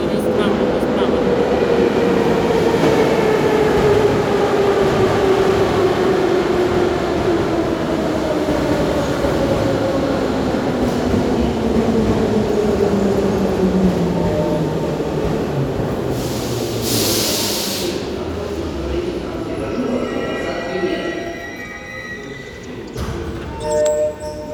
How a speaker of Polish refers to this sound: Tak, dopóki nie odjedzie pociąg.